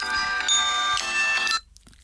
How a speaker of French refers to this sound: Vous entendez sonner mon téléphone?